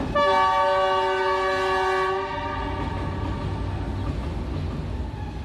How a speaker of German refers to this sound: Denn für sie bleiben die Infrastrukturprojekte wie der chinesische Zug etwas aus einer anderen Welt, das in Hochgeschwindigkeit an ihnen vorbeirauscht.